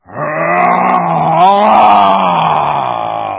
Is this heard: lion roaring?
yes